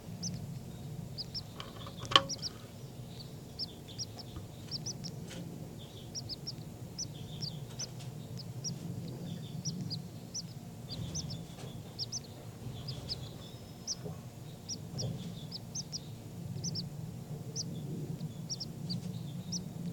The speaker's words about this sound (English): Back to the baby birds who are really calling a lot now.